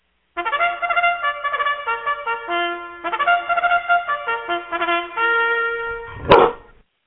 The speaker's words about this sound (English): And that is a greyhound bark. However, it's not our greyhound. I had to get it off YouTube because I couldn't get her to bark.